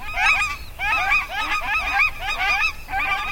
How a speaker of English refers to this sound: But the nene on Kauai may herald a conservation success. Beginning in 1985, nene were reintroduced to Kauai, and the birds here are flourishing.